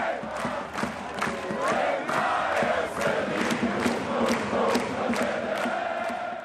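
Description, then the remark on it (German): A crowd of 14,600 spectators in the hall roars and cheers continuously, celebrating Alba Berlin's 89-67 basketball cup final win over Oldenburg in February 2020; a dense wall of voices with shouts and whistles rising above it, and faint rhythmic clapping or stomping running through the din. “Entsprechend frenetisch feiern 14.600 Zuschauer in der Halle den Erfolg und ihre Mannschaft.”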